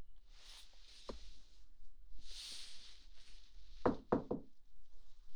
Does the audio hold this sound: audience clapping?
no